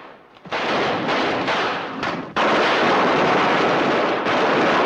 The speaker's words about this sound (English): Confronted by a hail of bullets, they try a different route, only to find that blocked as well.